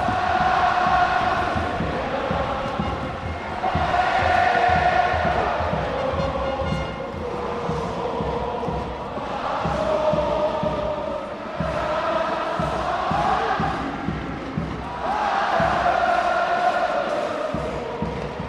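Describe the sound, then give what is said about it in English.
A large crowd at the Davis Cup final roars and cheers continuously as France clinches its Davis Cup title with a 6-0 final set, the loud sustained noise swelling in waves every few seconds with a dense, rumbling low end beneath bright shouting voices. “These are extraordinary, extraordinary scenes, and I've officially run out of words to describe this incredible crowd.”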